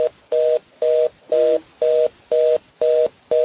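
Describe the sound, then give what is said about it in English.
A telephone line tone from a caller whose connection dropped beeps on and off in a steady, even rhythm, seven or eight loud tones with short gaps between them and no voices. “Somebody probably just put their phone down.”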